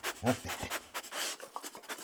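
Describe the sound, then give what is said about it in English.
Dogs panting in quick, breathy bursts that repeat steadily for a couple of seconds, quiet, with a short throaty whine near the beginning and no talking. “Have a seat at the table, darling. Don't mind the dogs.”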